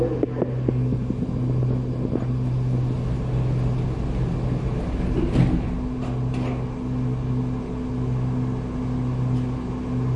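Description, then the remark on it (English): An airport shuttle train pulls away, heading to the terminal station serving gates A29 through A55, with a steady low electric hum and droning tonal whine over rolling rumble, broken by a few sharp clicks and clanks from the track. “Please hold the handrail in preparation for departure.”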